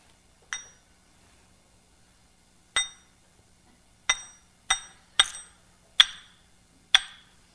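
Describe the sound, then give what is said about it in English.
Seven bright, high-pitched bell-like rings, each struck sharply and fading quickly, arriving at uneven intervals with a long pause after the first and a quicker cluster toward the end, with no talking. “It just puts one into this profoundly meditative mode with this beautiful bell-like ring.”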